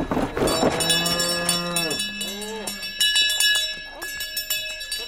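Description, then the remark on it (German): Cows moo in long, drawn-out calls, one loud, another following, while many cowbells clang and jingle steadily in the background throughout, as farmers of Scharnachtal unload their cows from trailers at an alpine hut, bringing them up for the summer and first into the stable. “Die fahren mit ihren Anhängern vor die Alphütte, laden ihre Kühe aus und bringen sie gerade zuerst mal in den Stall, damit die Kühe wissen, welcher Platz ihnen gehört, wenn sie zu Abend von der Weide”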